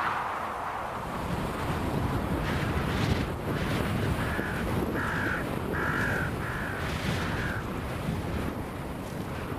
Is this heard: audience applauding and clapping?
no